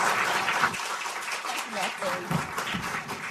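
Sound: round of applause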